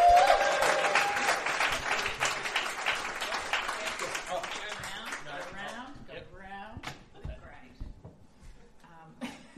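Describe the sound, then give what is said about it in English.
A crowd breaks into loud applause for a singer who is about to play a song on stage. The dense clapping gradually thins and fades out over several seconds, leaving scattered claps and faint murmuring voices. “Round of applause”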